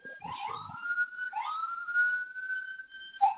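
ambulance siren

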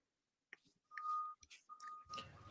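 beeping

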